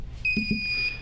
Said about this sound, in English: Buzz in again, if somebody's trying to buzz in. We got a buzzer that's not working right.